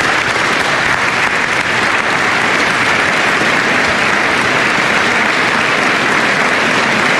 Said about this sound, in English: Let's give them a big round of applause as well.